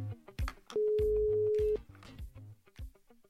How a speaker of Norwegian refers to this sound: Så jeg tar og ringer opp Gaute på egen hånd.